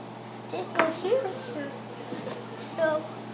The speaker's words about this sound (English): So what are we going to have with our tea now that you wash the dishes?